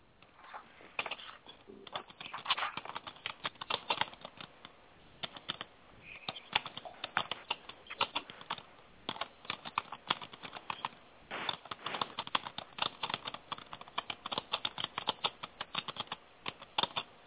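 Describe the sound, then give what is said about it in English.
Rapid, irregular clicking of keys on a keyboard continues throughout, fairly steady with brief pauses between bursts of typing, and no one speaks. “Are you typing?”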